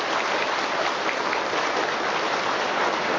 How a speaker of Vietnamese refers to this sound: Vỗ tay to lên thưa anh chị em, to át cái thứ 10 đi. Vỗ tay to nữa lên cho át thứ 10 đi, to lên. Vỗ tay to lên.